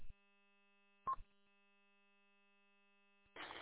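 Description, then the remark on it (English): A short electronic courtesy beep from a radio repeater sounds over a steady, humming radio carrier, followed by quiet open air and then an abrupt burst of static hiss at the end. No one speaks. “it beeps, and then I'm supposed to let off for a minute and then talk like 2 seconds later after that beep or something and pick back up.”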